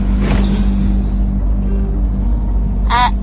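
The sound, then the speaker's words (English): The engine of a number 6 bus rumbles steadily and loudly from inside the vehicle while riding, a constant low drone with a brief higher squeak or rattle near the start and again near the end. “Supposed to be on the number 7 bus. This is the number 6 bus.”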